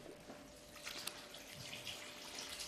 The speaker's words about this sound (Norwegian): Da må vi ha litt vann oppi kaka